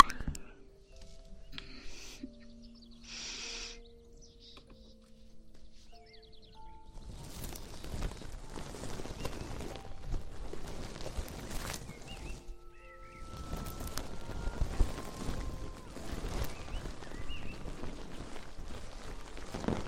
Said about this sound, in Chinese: 是我的小文鹅毛棒，让你们听一下鹅毛棒的声音啊。